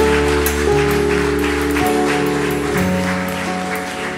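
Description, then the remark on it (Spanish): An audience claps for the Lord steadily for several seconds, a dense, crackling wash of hands over sustained, shifting keyboard chords, staying loud throughout with no one talking. “Dele palmas al Señor porque usted va a pagar sus deudas.”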